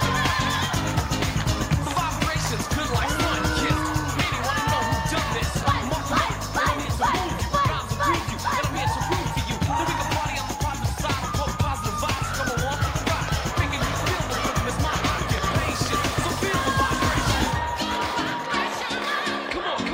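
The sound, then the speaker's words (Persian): A loud crowd cheers for the champion New Jersey girls' football team, a dense, sustained roar of many overlapping voices and shouts that holds steady for about eighteen seconds before cutting off abruptly. “همگی قهرمانای تیم فوتبال دختران نیوجرسی رو تشویق کنید.”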